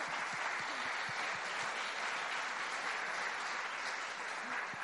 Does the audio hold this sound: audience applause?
yes